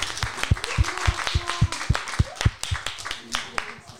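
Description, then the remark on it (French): An audience applauds the second-place team, a four-player team, in a steady, fairly rhythmic burst of clapping that lasts a few seconds, with scattered voices and cheers mixed in among the sharp hand claps. “On peut les applaudir.”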